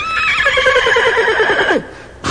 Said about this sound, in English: Here's Henry the horse.